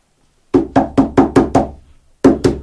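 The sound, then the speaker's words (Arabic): Loud knocking on Lot's door, by people demanding he open it: six hard, rapid raps in a steady rhythm, a brief pause, then three more, with no voices. “افتح الباب افتح الباب يا لوط، افتح افتح الباب وإلا كسرناها عليك.”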